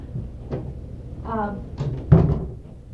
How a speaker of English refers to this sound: I'm going to shut this door.